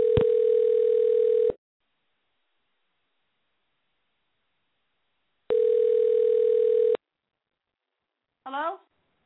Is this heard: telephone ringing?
yes